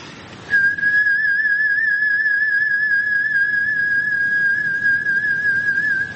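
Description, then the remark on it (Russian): A single human lip whistle holds one steady, clear note for about six seconds, gradually swelling, with a faint waver and soft breathy air underneath, fairly loud, with no talking. “Вот такой свист.”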